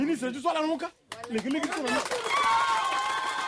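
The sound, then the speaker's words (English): A Touadéra campaign worker speaks loudly in short bursts, then a crowd of villagers in Nanagribizi breaks into steady, dense applause for the campaign speech that carries on to the end, with a few raised voices or high calls over it. “These villagers in Nanagribizi, a district still plagued by sectarian violence, applaud this speech from a Touadéra campaign worker.”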